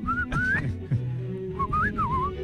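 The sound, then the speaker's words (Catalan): A person whistles an imitation of goldfinch song: short, bright chirping phrases that rise and warble, broken by a brief pause, over a steady low hum. “Ai, la cadernera.”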